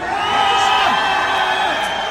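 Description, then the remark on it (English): A large crowd shouts the Punjabi cheer "bale bale", many voices overlapping into a loud, sustained roar that holds steady for about two seconds. “Come on, let me hear some Punjabi shouting going on. Bale bale!”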